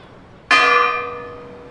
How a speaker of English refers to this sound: What was sought was the convenience of the children and residents, and that the sound of the bells would be heard throughout the town.